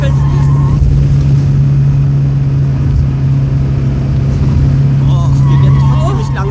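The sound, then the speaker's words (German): A car engine drones loud and steady for several seconds as the driver, unable to brake, downshifts to slow the car with engine braking, with muffled voices breaking in briefly near the start and end. “Runterschalten. Du musst mit dem Motor bremsen.”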